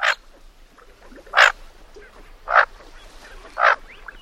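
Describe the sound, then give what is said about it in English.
Four short, harsh calls of a bufflehead duck sound at roughly one-second intervals, clear, with quiet background between each squawk and no voices. “It's called the bufflehead.”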